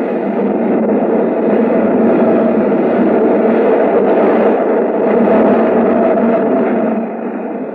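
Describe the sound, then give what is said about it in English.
The L, an elevated train, rumbles past right outside a store's window, shaking the whole building, in a loud, steady roar of rattling wheels and clatter that holds for several seconds, then eases off slightly at the end. No one speaks. “It's the L. Goes right past the window. Shakes the whole building.”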